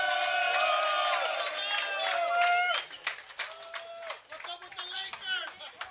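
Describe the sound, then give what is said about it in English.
A live show audience cheers as Ramona Shelburne walks in, with loud, high whoops and shouts, then the voices settle into a patter of scattered clapping that continues to the end. “Make some noise for Ramona Shelburne.”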